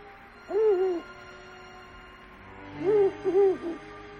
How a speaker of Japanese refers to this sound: あちらの森でフクロウが二声ずつ区切って鳴き始めました。